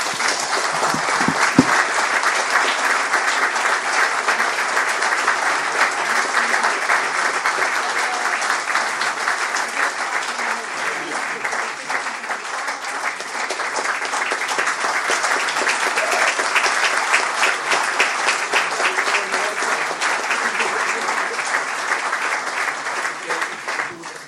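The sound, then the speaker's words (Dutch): Sustained warm applause from an audience for a person taking farewell, a dense steady patter of many hands clapping at an even loudness for about twenty-four seconds, with no voices standing out above it. “En nogmaals, dames en heren, misschien mooi om een warm applaus”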